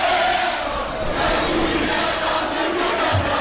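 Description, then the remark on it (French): A large protest crowd at a rally for press freedom and against censorship in Algiers roars and shouts continuously, a dense, loud wall of many voices with no single speaker standing out, sustained steadily throughout. “La foule était nombreuse lors de cette action en faveur de la liberté de la presse.”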